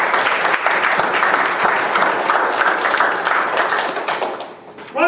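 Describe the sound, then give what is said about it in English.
An audience applauds steadily, a dense, loud wash of clapping that holds for several seconds before thinning out, with a voice starting to speak as it fades. “Give a warm hand of applause.”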